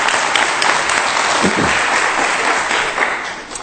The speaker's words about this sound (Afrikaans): Ja, kom gee vir die Here groot hande klap.